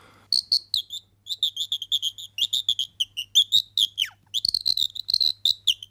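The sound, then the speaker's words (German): A bird-call whistle mimics a lark's song: rapid, high chirping trills in quick bursts, fluttering and warbling continuously for several seconds, clear with a faint low hum underneath. “Es gibt Vogelstimmeninstrumente, beispielsweise die Lerche.”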